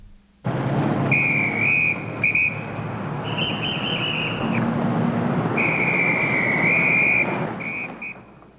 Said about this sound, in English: Now listen to the police officer blowing a whistle to stop traffic.